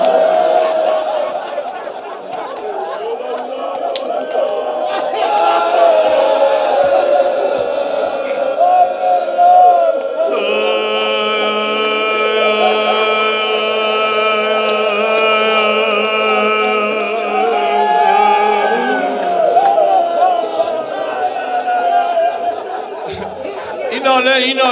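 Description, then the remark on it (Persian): A dense, noisy crowd commotion of many overlapping voices shouting and chattering at a steady loud level, with a stronger surge of raised, wailing-like voices from the middle onward. “یه جور شلوغ کنید صدای هلهلا به گوش زینب نرسه دیگه.”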